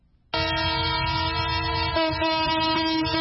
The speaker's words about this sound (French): Ce sifflement en plein Brazzaville confirme bien l'arrivée à la gare centrale du train de marchandises qui a rallié la capitale en partance de Pointe-Noire à 510 km.